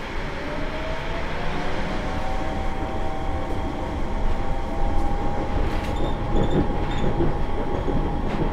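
Steady, loud rumble of a Yurikamome automated transit train bound for Shinbashi, with the next stop Shin-Toyosu, heard from inside the car, with a continuous low drone, a faint rising whine, and occasional light rattles and clicks throughout.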